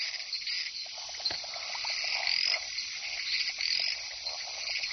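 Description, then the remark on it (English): A dense nighttime chorus of large tree frogs, down from the high canopy to breed and calling to unseen females. Steady high trilling and repeated shorter croaking pulses are layered over one another at moderate volume, with no voices. “These large tree frogs spend most of their lives on the high canopy and only come down when it's time to breed.”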